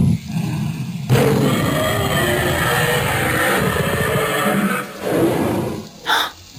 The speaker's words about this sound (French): Vous entendez? Mais qu'est-ce que c'est que ce rugissement? C'est parce qu'aujourd'hui, dans Mercredi, on remonte le temps et on part à la découverte des dinosaures.